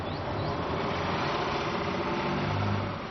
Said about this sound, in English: My bus is here. Is it the number 9? No, it's the number 4.